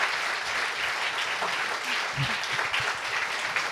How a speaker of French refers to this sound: Un immense applaudissement à Marie de Henzel pour effectivement...